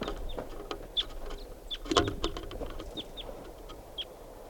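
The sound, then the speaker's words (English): A lone wild bird gives short, high-pitched call notes, roughly once a second, over a busy background of clicks and rustling. The calls are fairly faint and no one speaks. “And this is a wild bird, lone bird.”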